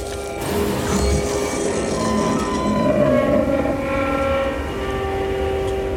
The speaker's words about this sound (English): It was an immense iceberg crashing against the ship's side.